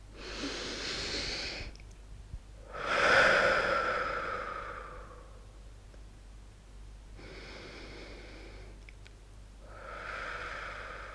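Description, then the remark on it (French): Slow, deep breaths during a guided relaxation exercise, four long airy swells with quiet pauses between them, one louder exhalation early on and a low steady hum underneath. “Et vous vous libérez ainsi sur une respiration ensuite libre et naturelle.”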